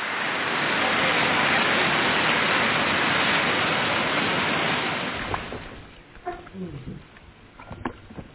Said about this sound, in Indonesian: Meski ketika kami tiba, disambut hujan.